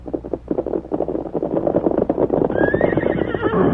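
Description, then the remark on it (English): A riderless white horse, young Dan Reed's horse Victor, whinnies loudly, its neigh rising and trailing off, while hooves clip-clop steadily underneath in a quick, uneven rhythm. “Hey, look at that riderless horse.”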